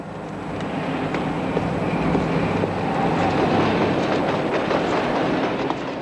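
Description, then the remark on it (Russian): A metro train rumbles steadily across an elevated viaduct over the Seine in Paris, with a road and pedestrian bridge below it, a dense, continuous roar with faint metallic clicks and rattles, fairly loud throughout, with no voices. “Итак, виадук через Сену. Сверху метромост, снизу мост для машин и пешеходов.”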